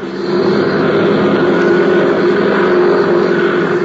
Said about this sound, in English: few miles away at the Curtis Airfield, a young flight instructor was warming up his plane, preparing to take off.